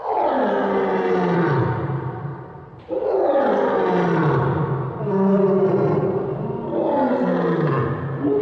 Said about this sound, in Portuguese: Esse era fácil, o leão.